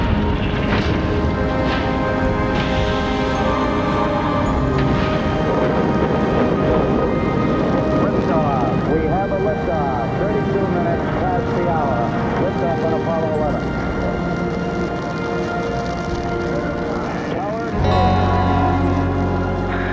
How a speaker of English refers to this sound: T-minus 15 seconds. Guidance is internal. 12, 11, 10, 9. Ignition sequence starts. 6, 5, 3, 2, 1, 0. All engine running.